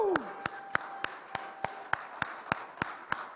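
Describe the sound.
An audience claps in unison, about eleven sharp, evenly spaced claps at a quick steady beat, with a faint sustained voice-like tone running underneath, applauding audience members born in Austria who have stood up.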